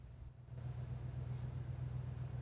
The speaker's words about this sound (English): Brian switches off the engine.